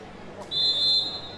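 A referee's whistle gives one steady, shrill blast lasting about half a second to signal an Aiken player's volleyball serve with the score at 13-12, rising above a low, continuous background murmur.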